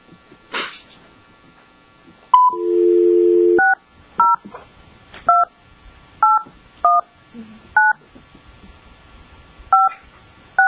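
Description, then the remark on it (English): A brief steady dial tone, then about ten short touch-tone keypad beeps as a phone number is dialed to reach a licensee during a board meeting, clear, spaced unevenly with small pauses between presses. “we are getting the licensee, Mr. Holtzer's client, on the phone”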